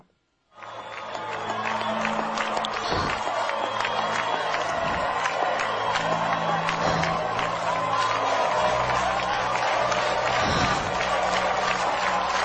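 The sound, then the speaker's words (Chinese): A large crowd in Central Park, Nairobi, bursts into applause at the sun after a brief moment of quiet, a dense, steady wash of clapping mixed with scattered cheers and voices that holds at full strength to the end. “内罗毕的中央公园，就是街上的所有人都到聚会上来，要一起看了的太阳的拍掌，太阳的拍手。”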